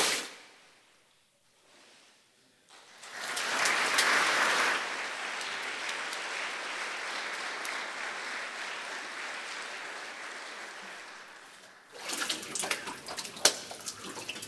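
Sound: water splashing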